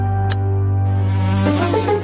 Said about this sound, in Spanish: Atención al movimiento de la mosca, que cambio de ritmo, caracolea en las inmediaciones de la pared. Se dirige hacia la medular de la ventana y ¡ojo! Que ha habido un contacto fuerte dentro del área transparente.